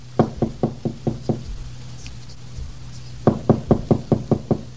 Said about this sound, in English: Gosh, I think I'll tap lightly on Teddy's door. It's possible she might be awake. Well, it won't hurt to try. Well, I'll do it very quietly.